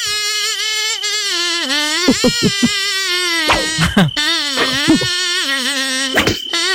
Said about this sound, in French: Bon, on vous fait écouter une deuxième chanson d'un moustique. Allez. Allez.